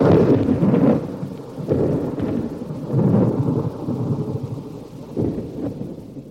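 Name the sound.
thunderstorm with thunder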